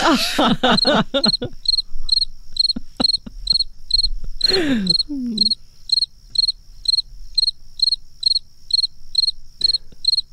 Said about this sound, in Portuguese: Os grilos ficaram aqui imenso tempo a fazer cri-cri.